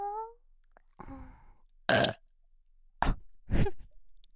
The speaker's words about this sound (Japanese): ゲップで頭バグらされて